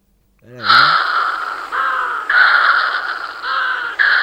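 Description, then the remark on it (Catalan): A Cory's shearwater calls loudly, a harsh, nasal wailing that rises and falls in repeated phrases like crying. A brief voice is heard at the very start. “A veure si hem trobat els cants del Virot.”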